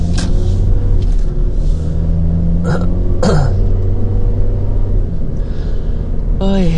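Steady, loud low rumble of road noise inside a moving car as the driver looks for a spot to park, with a couple of brief throat-clearing or grunting vocal sounds partway through and near the end.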